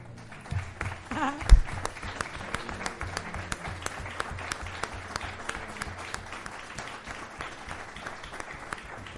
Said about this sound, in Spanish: Así que, si él sabe quién es, ¡un aplauso!